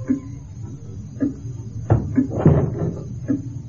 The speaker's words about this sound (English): And close the door.